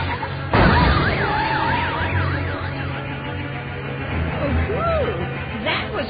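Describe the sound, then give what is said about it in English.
A car whose brakes have failed hits another car, knocking its hood high into the air: a sudden loud crash bursts out early, then warbling sirens rise and fall in pitch over a low rumble, with a sweeping wail later and another brief bang near the end. “Did you see how high the hood flew off that car?”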